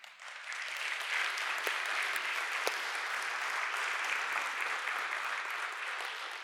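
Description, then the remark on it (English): An audience claps for parents steadily for several seconds, a dense, even wash of applause with a few sharper individual claps popping out, holding at moderate loudness before easing slightly at the end. “Let's clap it up for our parents.”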